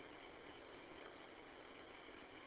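A car engine idles steadily in a parking lot, a constant low hum that never changes pitch or volume, fairly faint and with no voices present.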